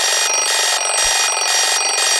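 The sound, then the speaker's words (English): A morning alarm clock rings loudly and continuously, a harsh, bright, buzzy tone pulsing in a steady rapid pattern with no voices present. “Whether you're a get-up-and-goer or king of the snooze button, we all have our morning routines.”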